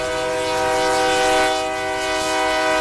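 A train's horn blares in one long, steady tone over the rumble of the passing train, loud, swelling slightly midway. No one speaks.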